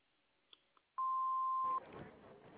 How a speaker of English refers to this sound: I'm sorry I can't come to the phone. Leave me a message after the tone.